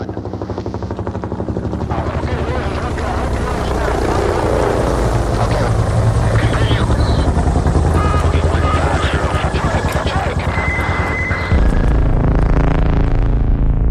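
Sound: helicopter flying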